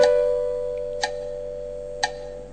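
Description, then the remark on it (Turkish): A metronome ticking steadily during a music recording session, sharp clicks landing about once per second over a low, constant electronic hum. “Metronom kaydetmiyor değil mi hocam?”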